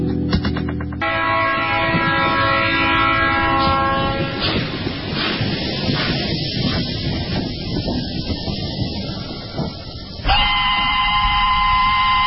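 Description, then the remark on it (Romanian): A train rolls past on the rails, loud, with steady rumbling wheels, sustained horn-like tones and a sharp metallic squeal near the end. “Expresul de seară. Trenul care nu întârzie niciodată.”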